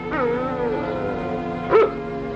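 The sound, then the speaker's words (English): A dog, Lassie, barking, starting with drawn-out whining yips and ending in one louder, sharp bark, with no one talking over it. “I thought I heard Lassie barking.”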